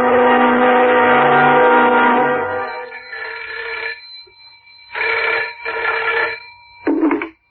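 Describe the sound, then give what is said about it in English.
A telephone rings loudly as a phone call is placed, first in one long sustained burst, then after a brief pause in a few shorter rings in quick succession, with no one speaking. “The next morning, I made a phone call to Derek's parents.”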